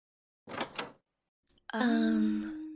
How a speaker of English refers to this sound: All right, gals, cool it. I think I hear her coming to the door.